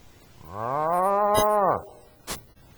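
A cow gives one long, drawn-out moo that swells and then falls away, clear with no talking, followed by a brief soft knock.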